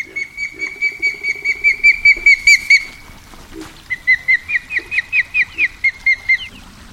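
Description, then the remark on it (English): Osprey calls: two rapid runs of loud, sharp whistled chirps, about a dozen each, repeated in a steady rhythm with no talking. “Ospreys return in mid-April to build their nests.”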